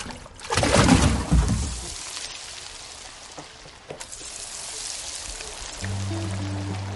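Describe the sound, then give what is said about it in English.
Wild, non-farm-raised fish caught that day sizzling in hot oil, a loud crackling burst at first that settles into a steady, dense hiss of frying, with a low hum entering near the end. “We got fish frying, caught a pretty good amount.”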